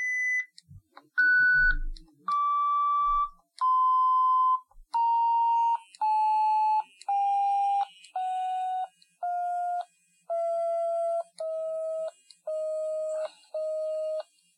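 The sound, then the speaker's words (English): A sequence of about a dozen electronic audio-graph beeps, played while reviewing a graph with the arrow keys, in an even rhythm, starting high, stepping down in pitch, then levelling off at a steady low tone that vibrates while the graph is below the y-axis, with no talking. “And you could hear that vibration while it was below the y-axis.”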